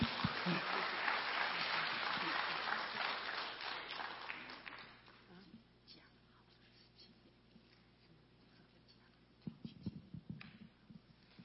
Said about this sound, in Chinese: 好，那我们现在把时间交给他，我们鼓掌欢迎他。